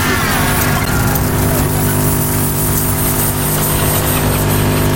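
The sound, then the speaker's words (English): A loud, steady roar of car engines fills the scene, a continuous low drone of highway traffic with no clear gaps between vehicles and no voices. “There are a lot of cars on this highway.”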